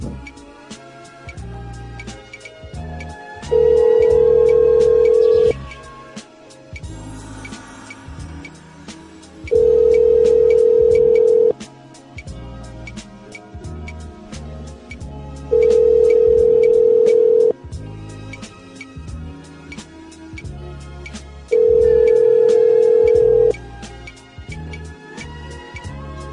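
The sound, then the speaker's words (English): An outgoing phone call rings out: four steady, mid-pitched ringback tones, each about two seconds long, repeating every six seconds over continuous background music; a call being placed to the Wheel of Fortune game. “I want call the Wheel of Fortune game first.”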